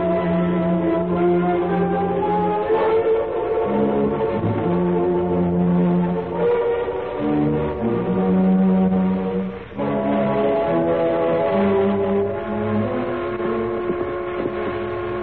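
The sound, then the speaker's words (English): An eastbound train's whistle sounds in long, loud, steady blasts, its rich chord-like tone dipping and shifting in pitch a few times across the stretch, with no voices over it. “Eastbound now. That's her whistling.”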